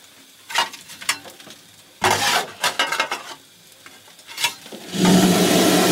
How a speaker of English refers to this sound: Opening the fire doors. Throwing some coal on the fire here.